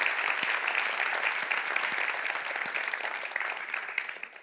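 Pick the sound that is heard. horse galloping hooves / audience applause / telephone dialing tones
audience applause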